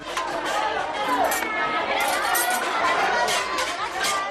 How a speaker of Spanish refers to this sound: Te vamos a llevar ahora a un sitio concurrido en el que seguro que se escuchan gritos, también risas, que se habla más o menos fuerte. Es un comedor escolar.